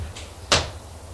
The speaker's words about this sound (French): Jean-Denis ouvre la porte.